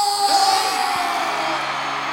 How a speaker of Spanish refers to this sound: reciban con un fuerte aplauso a uno de los artistas más grandes en este momento de la música urbana en español,